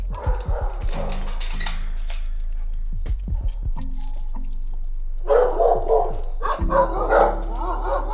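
A dog barks in clustered bursts, loud and rough, with a quieter stretch between them, over a steady low hum and some metallic jingling.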